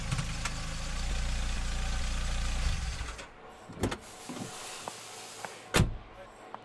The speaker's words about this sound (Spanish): Por su parte, Randall iba tan ensimismado que no vio a Eugenia cuando estacionaba el carro en la entrada del taller de Julián.